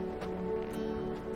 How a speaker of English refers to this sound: She opens the car door and gets out.